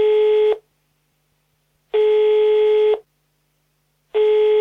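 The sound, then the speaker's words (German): A telephone ringback tone sounds as a person calls their grandmother, steady electronic bursts of three beeps separated by silent pauses of about a second, clear and fairly loud with no one speaking. “Denn auf die Frage, was wird eigentlich gebaut hier im Kaiserpark, da hat einer der Befragten den Telefonjoker gezogen und die Oma angerufen.”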